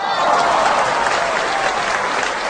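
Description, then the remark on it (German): A burst of applause played in as a sound effect, dense and steady clapping from a group, fairly loud, filling the whole moment with no pauses. “Jetzt müsstet ihr noch so einen Applaus einspielen.”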